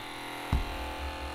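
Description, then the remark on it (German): A battery-powered cassette player, with headphones plugged in and a cassette inserted, is started: its motor whirs with a steady, buzzy hum and no playback sound, broken by one brief thump early on before the low drone continues. “Und dann habe ich hier den Kopfhörer reingesteckt und die Kassette eingelegt, von der ich dachte, vielleicht ist das die. Und habe ihn gestartet und das klingt leider so.”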